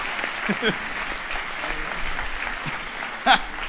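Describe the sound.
Audience applause fills the whole stretch, a dense, steady patter of many hands clapping, with a few brief voices and a short sharp whoop or shout rising above it near the end.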